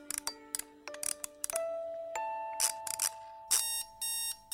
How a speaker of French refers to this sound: Alors là, 5h30, le réveil qui sonne, on se lève.